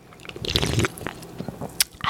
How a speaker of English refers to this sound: I'm gonna open it. Oh God, this is a fail. I can't get it open. Do you hear it fizzling? Okay, it's open. I'm gonna take a sip. Cheers.